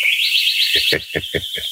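A sparrow chirps in a high, warbling trill that then breaks into five quick, evenly spaced chirps, fairly loud, with no talking.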